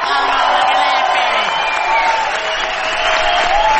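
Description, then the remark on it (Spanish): A loud crowd shouts and cheers continuously, many voices overlapping with whoops and some clapping, greeting the arrival of the artist Gillespie. “Nuevos gritos saludarán rajando los tejados la presencia del artista antes llamado Gillespie.”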